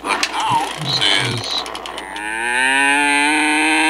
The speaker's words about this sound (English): Good God! Whoa. That cow was constipated.